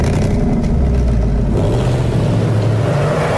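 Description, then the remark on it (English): A bright orange Ford Mustang's engine rumbles loudly and steadily as the car pulls out of an underground parking lot in a 2018 advert, never exceeding 15 miles per hour, a deep low growl with a slight rise in pitch midway, with no voices. “And as a sharp contrast to the gray ad, we see a bright orange Ford Mustang leaving an underground parking lot.”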